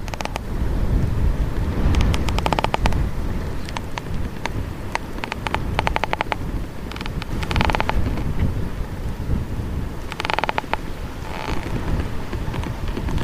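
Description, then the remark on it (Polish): Creaking and ticking from an old, decaying tree trunk, recorded with the microphone held to the bark as the trunk's parts work against each other, coming in irregular bursts over a steady, heavy roar of strong wind. No one speaks. “To głosy, które niestety jest takie skrzypienie. My tutaj słyszymy, jak pracują względem siebie te poszczególne człony tego drzewa.”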